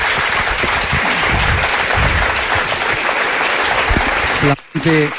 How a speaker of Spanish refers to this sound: Placer estar contigo aquí en Canarias. Un aplauso os pido para él también.